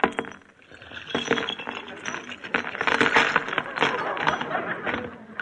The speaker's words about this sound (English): Here, they're in my purse. Let me have it. Oh, wait, I'll just empty it out on the table.